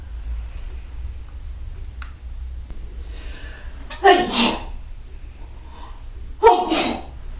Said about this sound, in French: On peut éternuer.